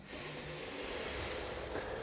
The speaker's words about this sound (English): And then together we can take again 3 deep breaths. Breathing in.